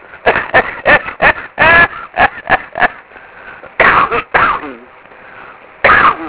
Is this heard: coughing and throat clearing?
yes